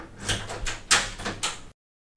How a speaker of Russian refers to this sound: Вот здесь я должен прерваться. Вы слышали, там открывается дверь. Дело в том, что... Ну, не знали же коллеги о том, что идет запись.